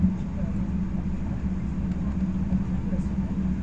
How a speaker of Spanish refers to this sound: A 160 km por hora rueda el tren por una línea llena de hitos.